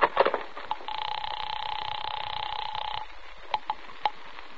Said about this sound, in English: The house phone.